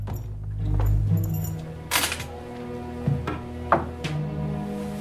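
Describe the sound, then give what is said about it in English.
A small bunch of keys is set down in a hotel room with a short metallic clatter, followed by a couple of lighter clinks and taps, over a steady low room hum. “wanders into his hotel room and puts down his keys.”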